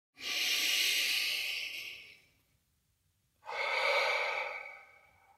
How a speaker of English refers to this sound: So, to begin with, I'd just like you to find a place where you can sit down for 2 or 3 minutes, completely undisturbed, and begin by taking some big, deep breaths, breathing in through the nose and out through your mouth.